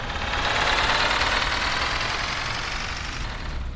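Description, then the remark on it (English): A bus engine, driven by a parrot in a children's story, runs with a steady, broad rumbling roar that holds at an even loudness throughout as the bus jumps over a bump, with no voices. “It is driving a bus. It is driving and driving and... ouch! A jump over a bump.”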